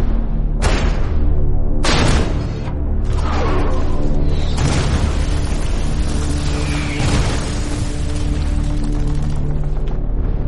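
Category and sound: sound effect, artillery shell explosions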